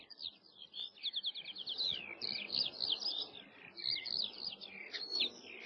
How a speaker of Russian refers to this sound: В южных областях, где снег быстро сходил, замечали: жаворонок запел, пора выходить на пашню.